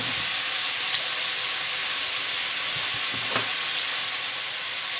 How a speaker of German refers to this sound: Ja, wie ihr hört, wir sind jetzt im Topf. Jetzt braten wir immer an. Im Schmalz. Schmalz müsst ihr gucken. Ihr könnt da Schweineschmalz nehmen. Putenschmalz, was es da so gibt.